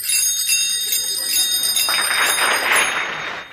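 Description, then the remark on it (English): Bright, ringing bicycle bells play an arrangement of Men of Harlech for bicycle bells only, with overlapping metallic dings and shimmering sustained tones; the sound swells richer and louder toward the end. “their fantastic arrangement of Men of Harlech for Bicycle Bells Only.”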